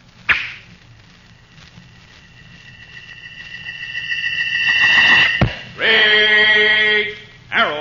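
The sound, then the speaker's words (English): An arrow set against a rawhide string is loosed from a strong bow bent almost to the breaking point with a sharp snap, then whistles through the air, growing louder as it nears, and strikes with a hard thud, followed by a ringing, vibrating tone. “Keen eyes fixed on a flying target, a gleaming arrow set against a rawhide string, a strong bow bent almost to the breaking point, and then...”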